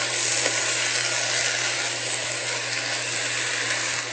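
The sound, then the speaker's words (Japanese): Steady, loud sizzling of konjac being stir-fried in a pan until lightly cooked through, a dense hiss running the full length with faint periodic scrapes and a low hum underneath; no one speaks. “こんにゃくに軽く火が通るまで炒めます。”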